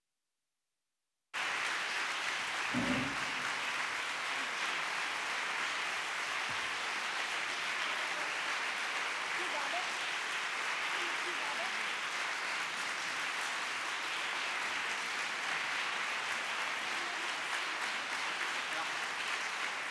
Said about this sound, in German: Eine ganz kleine Zugabe, weil Sie so schön klatschen, ganz klein.